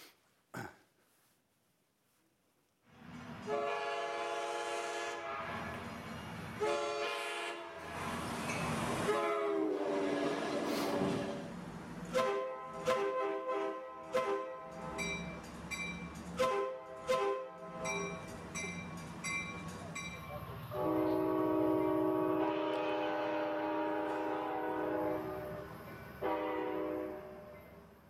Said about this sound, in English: And I think we actually have a little clip of various American train horns. So here we go.